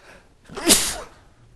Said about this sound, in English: I think I'm going to sneeze.